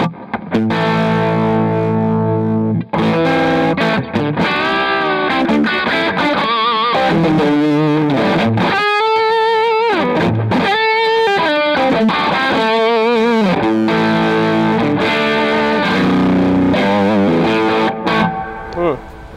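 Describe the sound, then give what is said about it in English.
A distorted electric guitar through a single mini humbucker plays a loud, continuous lead line of sustained notes with wavering bends and vibrato, heard on its own without any talking. “Just a single mini. Yeah, dude. Yeah. They have such a unique sound.”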